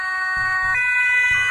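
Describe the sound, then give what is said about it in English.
A European-style emergency siren blares loudly with steady, layered tones shifting pitch partway through, over a low rumbling of traffic or engine noise. “Love that Euro sirens.”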